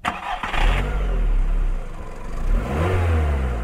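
An old car's engine cranks and catches, then revs loudly up and down, its low rumble swelling and falling over a few seconds, with no voices.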